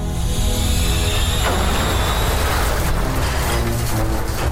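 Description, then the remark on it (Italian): A loud, continuous roar of a train passing on the railway, with harsh metallic screeching and clanging of wheels on rails throughout, steady and intense with no voices. “Che è il clangore del stridio di ferro molto forte, che era normale perché comunque qui la ferrovia passavano i treni, ormai era abitudine, no?”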